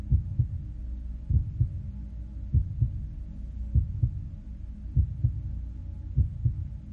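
A steady, low heartbeat thumps in paired lub-dub beats at a calm resting pace, muffled, over a faint continuous hum with no voices.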